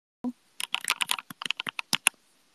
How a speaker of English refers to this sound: Can we have a keyboard ASMR before you go? Honestly, I don't even know if the mic will pick it up, but I can try. It's just the regular iPhone mic, so. Let me try to type as loud as possible or keep the earphone as close to the keyboard as possible.